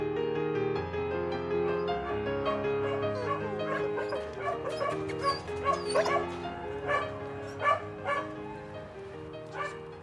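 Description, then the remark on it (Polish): Several dogs at an animal shelter housing about 200 dogs bark, yip and whimper together, the calls overlapping continuously with sharper yelps standing out near the middle and end. “W schronisku przebywa około 200 psów.”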